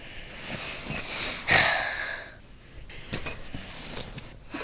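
A set of keys jingles in short, bright metallic bursts, shaken a few times with brief pauses between, close by and moderately loud, with no talking.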